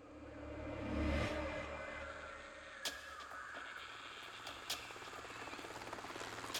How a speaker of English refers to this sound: The mission began as the helicopter landed gently in the grass.